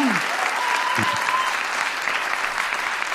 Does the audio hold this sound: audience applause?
yes